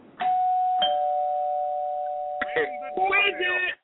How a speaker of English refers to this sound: when you come in, can you please ring the doorbell. Let me try it for you so you understand.